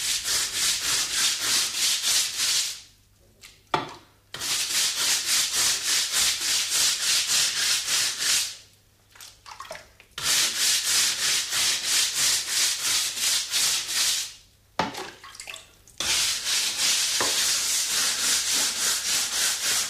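A floor in a house is scrubbed with a brush and water from a bucket: steady, rapid, harsh and hissy back-and-forth strokes, broken by three brief pauses before the rhythmic strokes resume. No voices.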